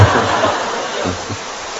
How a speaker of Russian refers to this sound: Дождь идет сегодня.